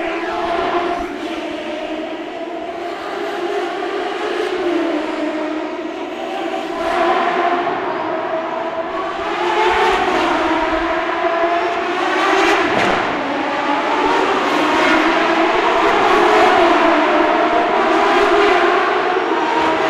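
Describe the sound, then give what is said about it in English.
Loud, continuous roar of a group of race car engines close by in a stadium, reaching 105 dB, with several cars whining past one after another and the noise swelling and fading as each passes, no voices. “one more take on the race. There's virtually nothing between us and the cars now.”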